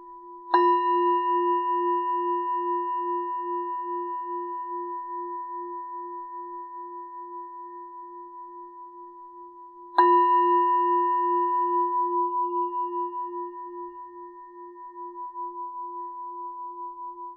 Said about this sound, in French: Et puis, en accueillant tous ces ressentis, préparons-nous à sortir de cette méditation au prochain son de cloche.